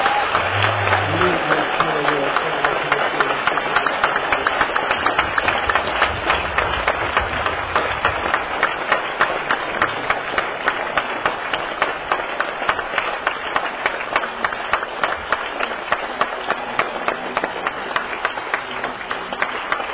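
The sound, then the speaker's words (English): A crowd claps for the Lord loudly and steadily for about twenty seconds, a dense, even wash of many hands that holds its level throughout, with faint voices mixed in at the start. “give a big applause to the Lord.”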